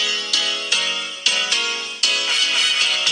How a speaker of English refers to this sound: I'm going to play it for you right now. This is what rings when my phone rings.